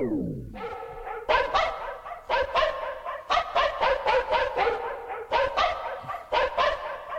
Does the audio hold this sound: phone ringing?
no